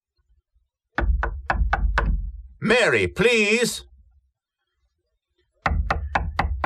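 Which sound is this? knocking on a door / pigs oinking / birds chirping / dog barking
knocking on a door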